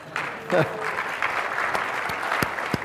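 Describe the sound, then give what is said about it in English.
A crowd applauds steadily during a technology demo, a dense wash of overlapping claps with a few sharper individual claps standing out, holding at a moderate level throughout. A brief voice is heard near the start. “You can clap, it's okay.”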